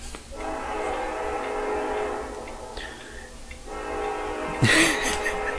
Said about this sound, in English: Now, it's not in the book, but the train is coming. The land whale is here. Gone down the track, land whale. Going down the track.